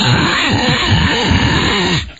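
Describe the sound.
A voice imitates loud phone-line static during a phone call, a harsh, steady hissing crackle with rough throaty pulsing underneath, lasting about two seconds before cutting off abruptly.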